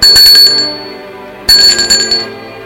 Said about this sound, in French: Il n'a pas envie d'aller ouvrir. On sonne une deuxième fois.